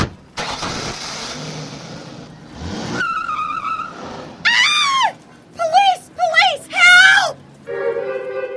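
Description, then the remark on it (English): A car engine roars and tires skid as the vehicle pulls off, followed by a woman's repeated loud, wavering screams that rise and fall in short bursts. “Scream as we pull away.”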